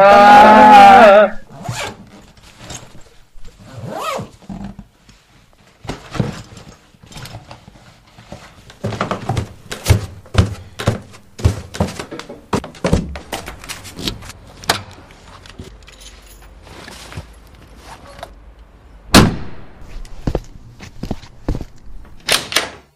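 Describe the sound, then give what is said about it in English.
A father loads bags from the front door into a car before a family trip: scattered thumps, rustling and zipper-like scrapes, with sharp clunks like a door or trunk, after a brief loud tonal sound at the start. “Get your bags at the front door so Dad can load them.”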